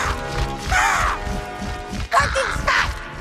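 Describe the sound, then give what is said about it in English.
Two harsh, raspy raven caws ring out loud, one after the other with a short pause between, over a low rumbling background. “let's just make her an angry raven. A raven with Jill's face.”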